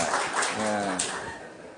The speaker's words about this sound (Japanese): こんなところで拍手もらうと思いませんでしたけどね。